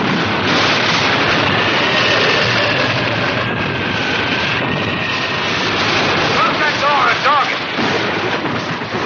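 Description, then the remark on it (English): A howling typhoon wind and driving rain storm at sea around a ship roars loud and steady for the whole stretch, a dense rushing wall of noise with faint voices buried beneath it near the end. “You want the ship to go down, we're in a typhoon.”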